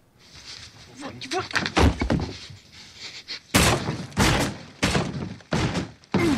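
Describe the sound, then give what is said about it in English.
A man's fist punches a hole through a wall: five loud, heavy blows land in a steady rhythm about every half second, each with a crunching, splintering edge, after a few seconds of a straining voice. “That's him punching a hole through the wall.”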